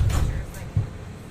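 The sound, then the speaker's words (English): Monorail sliding doors rumble shut with a low thud, followed by a second softer bump as they settle, set against a dull background hum. “Ladies and gentlemen, this is our final boarding call, and the doors will be closing soon.”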